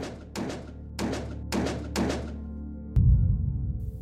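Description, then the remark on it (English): At least 15 sharp gunshots ring out in a rapid burst on Union Avenue in the morning, about half a second apart, each with a ringing echo tail, followed by a low rumbling noise after the last shot. No one speaks. “At least 15 gunshots.”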